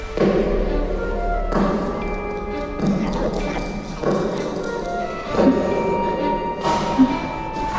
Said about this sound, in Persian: یه صدای پا میاد. کیه؟ خیلی عجیبه، من هیچ کسو نمیبینم.